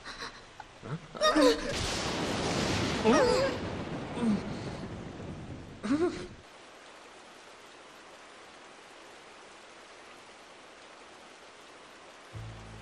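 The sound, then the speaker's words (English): Heavy rain hisses steadily while a loud, rolling crash of thunder fills the first half, then fades, leaving only the constant wash of rainfall. “It's the lightning. On days like this, my body takes on a charge.”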